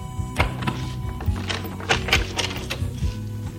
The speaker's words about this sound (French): La porte qui se trouvait derrière mon lit s'ouvrait.